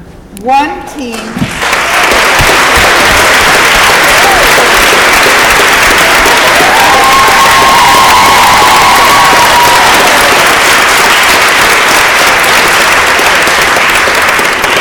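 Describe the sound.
A large crowd at an evening event honoring students, after a Reading Olympics competition, bursts into loud, sustained applause that stays steady for over ten seconds, dense clapping with some cheering mixed in, after a brief moment of voices at the start.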